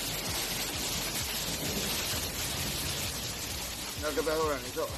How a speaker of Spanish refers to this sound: Puente de Mayo pasado por agua. 4 días que se están viendo deslucidos por las lluvias. Este viernes la tónica dominante han sido las fuertes precipitaciones que han venido acompañadas de tormentas y hasta granizo.